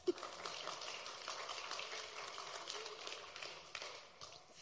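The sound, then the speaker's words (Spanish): A crowd applauds again at the speaker's request, clapping steadily in a dense crackling patter of many hands that holds for several seconds before thinning out toward the end. “Aplaudan otra vez.”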